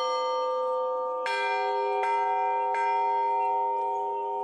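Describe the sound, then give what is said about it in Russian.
Church bells from a newly consecrated set of five bells brought from Russia ring in a church courtyard, struck for the first time by Bishop Vladimir, with three distinct strikes about a second apart, each blooming over a long, shimmering resonance that keeps humming between hits. No voices are present. “Владыка Владимир пробил первый колокольный звон.”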